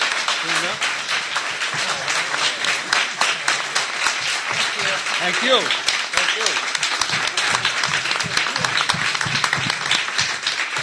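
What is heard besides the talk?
audience applause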